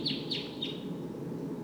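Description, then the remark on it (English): Three short, high V-shaped flight call notes of a wild bird in quick succession, each sweeping sharply in pitch, heard over a steady background rumble, then the calls stop and only the noise continues. “Sounds like the V-shaped flight call note. Wild bird.”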